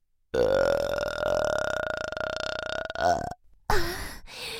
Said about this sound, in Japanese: ほら、旅の恥は書き捨てとも言います。遠慮せず私のゲップ味わってくださいな。